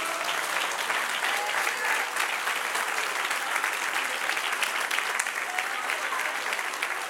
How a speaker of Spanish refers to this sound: Dar un aplauso al que vive.